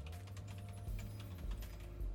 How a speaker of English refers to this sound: Sorry, y'all, I'm typing. This keyboard is so loud. I think I need to get me one of them nice new ones.